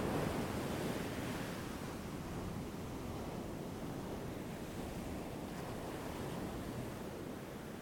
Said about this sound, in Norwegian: Fortsett å la innpusten være bølgen som slår opp på stranden. Og la utpusten være bølgen som går tilbake til havet.